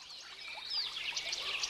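A babbling brook trickles and gurgles steadily, a soft rush of running water with bright, bubbling splashes and no voices.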